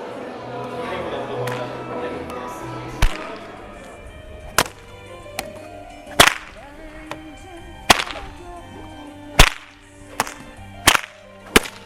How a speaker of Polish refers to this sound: Wyglądało to niebezpiecznie. Może trochę, ale to jest wszystko pod kontrolą. Ale to robi więcej huku, czy naprawdę może być niebezpieczne? Może robi hałas, ale przy tym może być niebezpiecznie, jeżeli nie będzie to sprawna ręka trzymała tego bata.